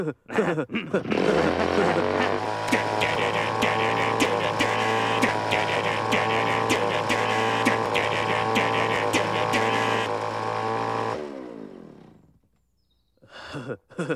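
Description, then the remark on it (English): A chainsaw used for pruning power lines roars at a steady, droning pitch for about ten seconds, then cuts off abruptly into near silence before a brief burst of noise at the end. “Yeah, this chainsaw kicks ass.”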